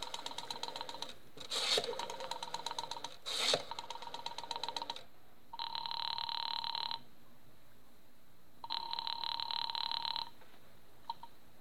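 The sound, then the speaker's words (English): Mrs. Morris dials a telephone to check the time: several seconds of rapid mechanical clicking, followed by two separate buzzing ring tones on the line. It is fairly quiet and there is no talking. “Morris, knowing how foolish it was, knowing it, went to the phone and dialed.”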